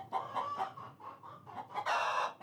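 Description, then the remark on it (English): Several chickens cluck in a quick, irregular series of short calls, ending in a louder, drawn-out squawk. No one speaks. “Chickens are always making different types of sounds, and there's a lot of information carried in these things.”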